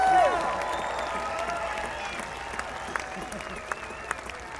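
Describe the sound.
An audience at a bluegrass show applauds a bluegrass musician steadily for several seconds, a dense wash of many hands clapping at even loudness, with crowd voices and faint cheers mixed underneath.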